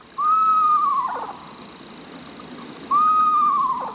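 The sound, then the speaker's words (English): A screech owl gives two clear, quavering calls that slide downward in pitch, each about a second long and spaced a few seconds apart, fairly loud over a quiet background. “Screech owls, tiny, adorable owls, will happily raise their little ones in a nest box designed”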